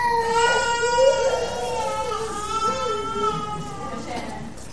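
A baby cries continuously and fairly loudly, a sustained wailing with a wavering, rising and falling pitch that barely pauses for breath, heard alone without other voices.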